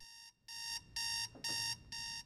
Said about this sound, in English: In a darkened room, a hand reaches out from a coffin to turn off the alarm.